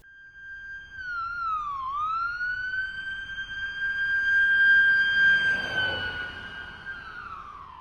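An ambulance siren wails loudly and steadily as the ambulance takes an injured girl to hospital, dipping in pitch once near the start before holding a high, sustained tone over a low rumbling background, with no voices.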